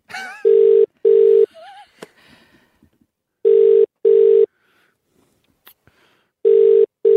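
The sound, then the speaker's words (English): An outgoing phone call rings unanswered: three loud, clear double-ring bursts repeat about every three seconds, with only faint background shuffling in the gaps and no one picking up. “Hey, stay by your phones because we will do that next.”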